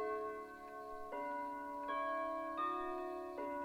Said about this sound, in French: L'horloge du rez-de-chaussée carillonne et les tintements résonnent faiblement à travers les murs.